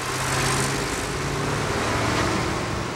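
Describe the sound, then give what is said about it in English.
A truck engine rumbles at a steady, low pitch beneath a constant wash of broad road and wind noise as the truck drives away, one man at the wheel and another standing on a side plank clinging to the driver's window, holding an even, fairly loud level throughout, with no voices. “One man hurries behind the wheel. The other stands on a side plank and clings to the driver's side window.”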